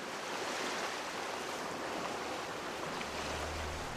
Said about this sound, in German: »Herrlich, das Meer!« rief Bertha Knurr und hielt mit einer Hand ihr Hütchen fest